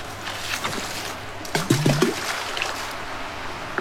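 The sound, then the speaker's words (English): A handful of pebbles from the riverbed is scattered into river water to tell the future, plopping and pattering in a brief cluster over a steady background of flowing water, with no talking. “Pebbles from the riverbed, like this. There. Then they scatter them in the water.”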